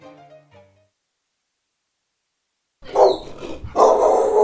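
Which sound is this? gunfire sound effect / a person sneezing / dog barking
dog barking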